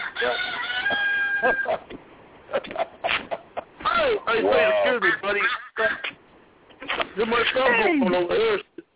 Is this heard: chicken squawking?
yes